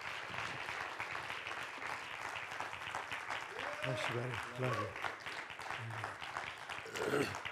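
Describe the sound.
Steady applause from an audience fills the whole stretch, a dense rapid patter of clapping at even loudness, with a man's voice briefly speaking over it partway through.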